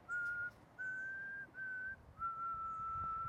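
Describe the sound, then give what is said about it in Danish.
A person whistles four sustained, steady notes in a row, each held a moment with brief pauses between, the last one longest, clear over a quiet background. “Til hver gang jeg havde råbt, tog han atter uanfægtet fat på sin fløjten.”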